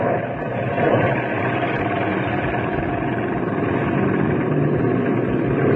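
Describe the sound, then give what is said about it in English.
A steady, loud engine drone hums continuously with no breaks, like an airplane passing overhead, its rumble holding even throughout with no voices present. “Let's move into position while they're watching the plane.”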